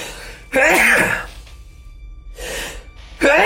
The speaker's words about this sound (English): Sneezes of New York. This is like, like the third time I've sneezed since we started this business on camera.